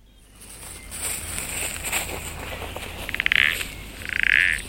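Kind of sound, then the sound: animal, frog croaking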